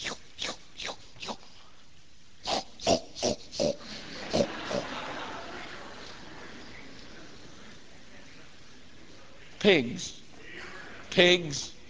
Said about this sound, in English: Pigs.